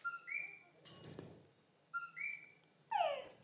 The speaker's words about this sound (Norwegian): Og det høres ut som en dataspill-lyd. Ja, den dataspillen, dataspill-lyden, det en frosk som heter Tungara, fordi han sier Tungara.